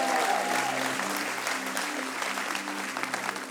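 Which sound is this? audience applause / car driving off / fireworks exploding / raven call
audience applause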